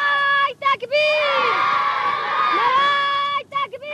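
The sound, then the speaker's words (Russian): A group of children of the Afghan resistance sings a song together, loud, holding long high notes with a few brief breaks near the beginning and end; recorded in Afghanistan during the war. “Этой песни детей афганского сопротивления мы продолжаем цикл передач, посвященный войне в Афганистане.”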